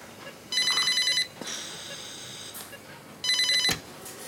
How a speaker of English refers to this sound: The phone rings and a nurse answers it.